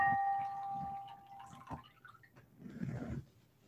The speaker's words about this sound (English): And so I now pour this water as a way to recognize our connection to the past and to one another.